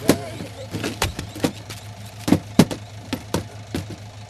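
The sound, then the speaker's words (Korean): A State Security Department truck carrying a group of 30 people drives nonstop for about two hours on an unpaved road; its engine drones at a steady low pitch while sharp, irregular clunks and rattles break in every fraction of a second, moderately loud, as it jolts along. “그 트럭은 우리를 태우고 2시간가량을 쉬지도 않고 달렸다.”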